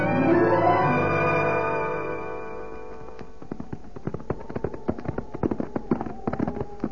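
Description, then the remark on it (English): Horses' hooves clip-clop in a quick, uneven patter for the last few seconds, fairly sharp, after a swelling musical passage fades away at the start. “I'll get the horses right now, Hoppy.”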